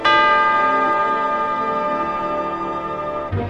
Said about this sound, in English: As a matter of fact, they were still dancing when the big clock started to strike midnight.